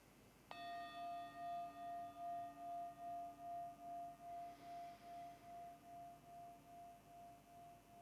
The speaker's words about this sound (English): I'd like for you to have a Pavlovian response to the bell. As soon as you hear it, your shoulders relax, your face relaxes, your whole body responds by settling in a posture of ease, of comfort, of relaxation.